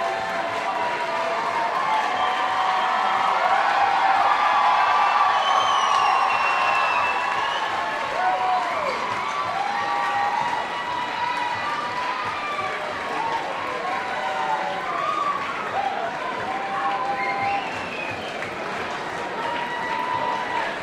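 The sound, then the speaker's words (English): A concert crowd cheers and applauds in a loud, sustained roar as a huge piece of fabric is dropped from the top of the lights to the floor before the encore, with high shouts and whistles rising and falling over steady clapping throughout. “Listen to the crowd as this thing gets dropped.”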